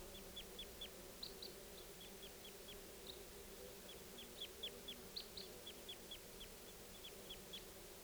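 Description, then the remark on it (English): A flock of birds calling: short, high-pitched chirps in quick bursts of three or four, repeating steadily throughout, fairly faint over a constant low background hum. “Here's the calls of the flock again.”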